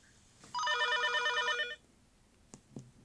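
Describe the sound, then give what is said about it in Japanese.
A single loud telephone ring of about a second, a trilling electronic warble heard on an outgoing call to a lawyer at the Kamo law office in Tokyo, followed by quiet and two soft clicks like a handset being picked up. “早速弁護士に電話してみようかな。”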